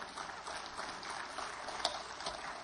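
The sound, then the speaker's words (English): A crowd claps for the Lord together in a steady, dense wash of applause, many hands overlapping with a few sharper claps standing out, sustained without pause and no voices rising above it. “Give the Lord a good clap offer.”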